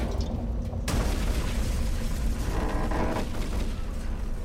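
A sudden, loud blast erupts about a second in as an RPG rocket hits beside a Hummer, knocking it onto its side, its broad roar spreading into sustained rumbling and crackling noise that lingers heavily for several seconds, with no voices.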